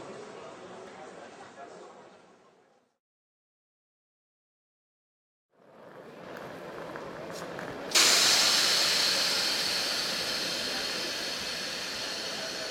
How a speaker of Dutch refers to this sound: De trein met bestemming Oostende rijdt het station binnen op spoor 5. Deze trein stopt in Brussel-Zuid, Gent-Sint-Pieters en Brugge.